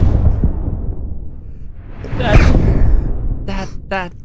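sneeze

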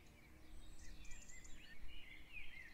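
birds singing at dawn

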